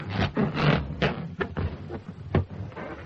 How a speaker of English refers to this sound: The sound of fingers being rubbed on a balloon.